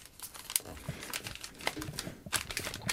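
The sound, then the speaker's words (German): Gift wrapping paper being handled and glued together, with irregular crinkling and rustling and a few sharper crackles and taps spread across the moment, fairly soft throughout. “So, ja, und jetzt wird das zusammengeklebt.”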